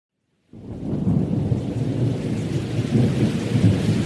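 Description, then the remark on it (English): After a brief silence, a heavy thunderstorm rushes in: a dense, steady roar of pouring rain over a deep, rolling rumble of thunder, loud, with no voices. “It's a rainy, stormy night in British colonial Africa during the Victorian era.”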